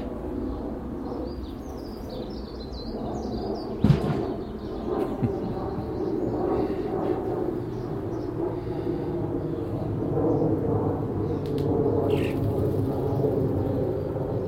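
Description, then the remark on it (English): A man rattles his ladders outdoors in sunshine with a cool northwest breeze: a few metallic knocks and clatters, one sharp clank standing out, set against a steady low outdoor rumble with birds chirping faintly. “I'll wait till he finishes rattling his ladders.”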